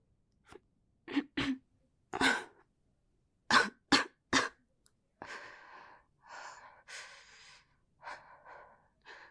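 coughing

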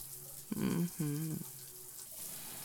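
shower water running

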